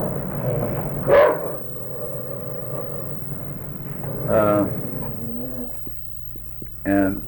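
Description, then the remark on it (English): A dog lets out a few short, whiny vocalizations at irregular intervals, with a low steady background hum and people talking. “Hey, what's the matter, dog?”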